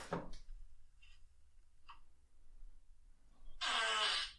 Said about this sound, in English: That one's funny because it's a video of his sleeping partner and then he puts his ass right near her face and farts.